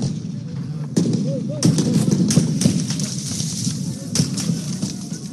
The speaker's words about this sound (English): Gunfire was heard outside the Sudanese military headquarters in the capital of Khartoum on Tuesday.